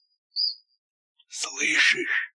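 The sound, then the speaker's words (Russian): A single short, high, thin cricket chirp sounds briefly on its own, followed after a pause by a person speaking. “Слышишь? Это сверчок трещит.”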